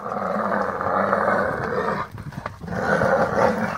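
A mother animal's loud, rough roar, given to drive off a lion attacking her young, bellows out in two long bursts separated by a short pause, harsh, growling and forceful with no voices present.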